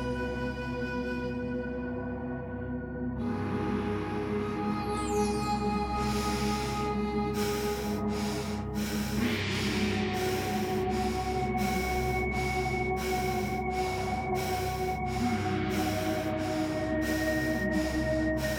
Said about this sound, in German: Atmen Sie nun in halber Geschwindigkeit im Feueratem.